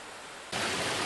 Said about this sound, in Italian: È una sorgente di alcuni metri cubi al secondo che varia leggermente la portata durante il corso dell'anno. Questa, che è la sorgente della Santissima, è una delle sorgenti del fiume Livenza.